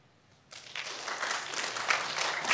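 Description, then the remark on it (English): Applause from a church audience starts abruptly after a brief quiet moment, clapping for a woman who answered a question about a Bible verse. It is a dense crackle of many hands clapping that builds and stays steady and fairly loud. “Clap for her.”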